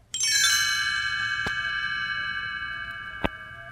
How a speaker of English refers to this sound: You'll know it's time to turn the page when you hear the chimes ring like this.